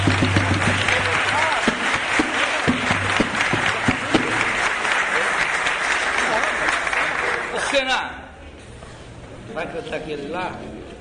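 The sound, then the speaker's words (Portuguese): Loud, dense audience applause for a visiting composer at a samba performance, with many overlapping claps and some cheering, lasting about eight seconds before cutting off sharply, followed by quieter voices talking. “Chega pra cá, gente, um aplauso mesmo, porque aí o cara.”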